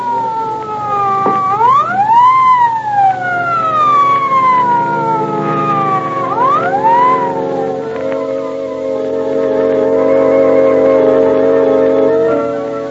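An ambulance siren wails, sweeping up and down in slow rising and falling cycles before settling into a steady, sustained tone, with a low engine rumble underneath.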